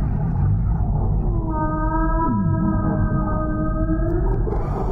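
A whale call from a CD recording, sped up ten times to make it audible to humans: a sustained, harmonic tonal moan holding steady for about three seconds, with a brief dipping glide in the middle, over a dense low rumble.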